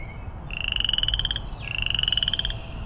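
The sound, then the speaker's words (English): A frog on a sidewalk croaks in two rapid, buzzing trills, each lasting about a second with a short pause between them, over a low background rumble. “Well, it was very nice talking with you, little frog.”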